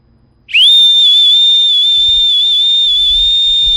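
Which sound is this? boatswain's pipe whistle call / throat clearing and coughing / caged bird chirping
boatswain's pipe whistle call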